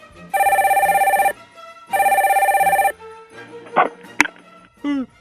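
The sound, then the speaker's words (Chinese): A telephone rings at home with an incoming call during homework, twice in loud, rapid trilling bursts, each about a second long with a pause between, followed by brief clattery handling sounds and a short voice-like tone. “小毛回到家洗过澡，在做功课的时候接到阿雄的电话。”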